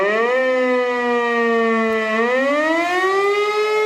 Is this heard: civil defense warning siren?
yes